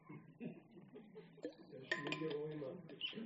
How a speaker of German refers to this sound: nehme ich einen Schluck Wasser.